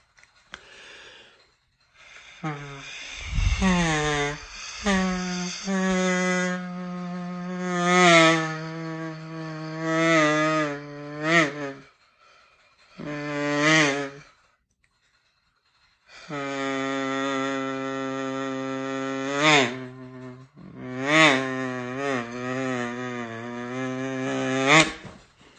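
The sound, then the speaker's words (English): A buzzy, nasal kazoo tone imitates a mosquito's whine in several sustained bursts with short gaps, its pitch wavering and sweeping upward at times. No one speaks over it. “Now you knew you were sitting there going, oh, it was a mosquito, right? Because, or else you would have just thought I was doing a kazoo.”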